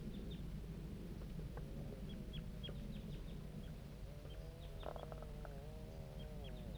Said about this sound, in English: Start recording the juvenile birds responding to bird 5-3.